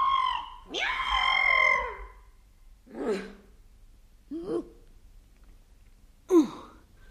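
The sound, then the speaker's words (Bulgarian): A series of high, whiny squeaks, likely a voice mimicking a mouse: two drawn-out squeals at first, then three short, breathy chirps spaced apart, moderately loud, with no talking. “Ох, цвърчиш ти, цвърчиш, ама сега ще те сгръбча.”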